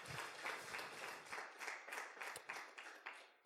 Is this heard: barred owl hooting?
no